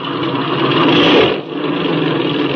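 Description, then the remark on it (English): A small airplane engine being run up to check how it runs roars loud and steady. It swells briefly, drops for a moment, then settles back to an even, buzzing drone with no voices. “Now then, we'll run this engine up and see how she's hitting.”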